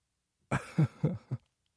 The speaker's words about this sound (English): No, don't cough. Or cough, whatever.